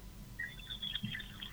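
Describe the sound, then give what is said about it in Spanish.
Water runs steadily from a kitchen tap that has just been opened, a soft continuous hiss with a faint splashing shimmer, fairly quiet and heard alone with no talking. “fíjate vos que yo precisamente estoy en mi cocina. A ver, abro la canilla, no sé si se oye.”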